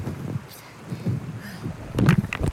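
Rushing river water makes a continuous rough wash with a low, uneven rumble that swells and surges, growing louder and more turbulent toward the end.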